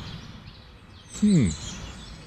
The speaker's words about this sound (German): Also hier, wo ich gerade sitze, sind wieder eine Menge Vögel. Wilde Tiere. Hier hört ihr die wilden Tiere. Hört ihr die?